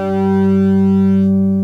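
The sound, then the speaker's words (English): A smooth, sustained synthesizer tone holds one steady pitch, mellow and rounded with a few soft harmonics, steady in volume before the upper overtones fade near the end. “Oh, now it's a beautiful, soft tone.”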